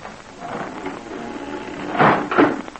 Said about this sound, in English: And so with the help of Jigger, one of Smiley's men, Pat and Terry were forced into the kitchen part of the tavern. There, a trap door in the floor was raised.